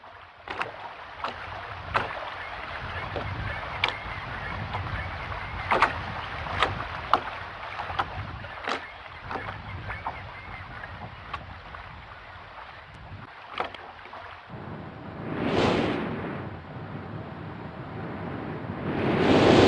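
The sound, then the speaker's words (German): Video game sound of a harbour quay wall on an island: gentle waves lap and slosh with a steady windy rush, punctuated by soft knocking splashes like water against a boat or dock; a louder wave surge swells near the end. No voices. “Das Rauschen der Wellen, Rauschen des Windes.”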